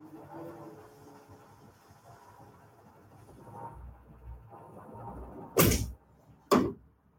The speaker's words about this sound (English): can I check out and go close the door real quick?